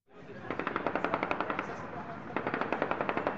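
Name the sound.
celebratory gunfire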